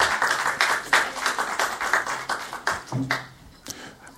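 At a city council meeting, a crowd claps steadily after a public comment, a dense patter of many hands with sharper individual claps standing out, then the applause thins and tapers off near the end.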